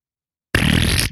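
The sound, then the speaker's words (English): A loud, wet, sputtering raspberry, made by a voice imitating a bird pooping. It follows half a second of silence, runs about half a second, and ends with a brief second sputter. “What's it sound like when a bird poops?”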